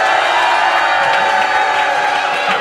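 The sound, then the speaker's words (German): A live audience, recorded for radio, cheers loudly and steadily, a dense wash of many voices whooping and shouting without a break, with scattered clapping mixed in. “Also ihr könnt euch selber jetzt noch einmal dann jubeln hören im Radio.”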